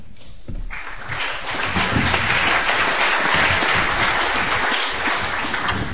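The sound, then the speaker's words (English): A crowd at a discussion event applauds steadily for several seconds as the first speaker, Professor Schwartz, is introduced, a dense rattle of many hands clapping at once, rising quickly after a brief quiet start and holding loud without voices over it. “You should really wait to clap until I'm done because maybe I'm not so interesting, you know?”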